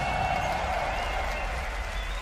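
A crowd bursts into sustained applause and cheering for an audience member who gave a word for freestyles, a dense, steady wash of clapping with voices and whoops mixed in, holding loud and even for the whole couple of seconds.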